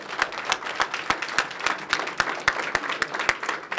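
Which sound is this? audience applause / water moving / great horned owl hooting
audience applause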